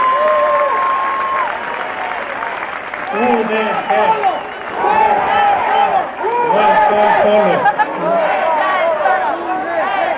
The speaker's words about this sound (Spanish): Muchas gracias, un fuerte aplauso, porque en verdad me conmueve.